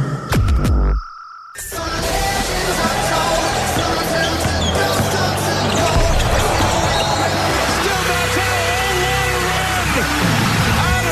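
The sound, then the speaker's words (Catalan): The theme tune of Back to Back, a RAC1 radio show about North American sports: a few short tones and a brief gap, then a loud, dense, energetic music bed with a bouncing-basketball effect and crowd-like buzz, steady to the end. “Sintonia del Back to Back per parlar d'esports nord-americans”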